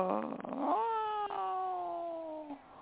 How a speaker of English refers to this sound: Imagine being surrounded by 1,000 cats. Oh, my. Cats, really? Yeah. That's a lot.